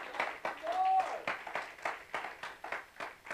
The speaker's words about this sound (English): Somebody clap if you know it's true. Let us be an entire church clapping about this.